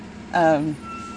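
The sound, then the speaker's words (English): A truck's air brakes let out a single short squealing whine in the background, holding briefly before sagging in pitch and fading, followed by a faint steady tone. “I've got air brakes going off in the background.”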